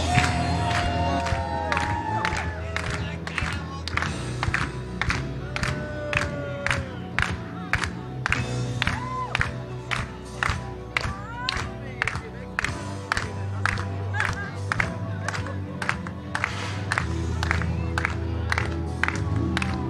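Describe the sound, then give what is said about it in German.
A crowd claps in a steady, rhythmic unison beat, about two claps per second, while many voices cheer and shout loudly throughout. “Applaus!”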